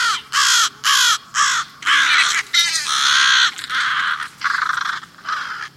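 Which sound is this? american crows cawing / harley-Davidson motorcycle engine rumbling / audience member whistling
american crows cawing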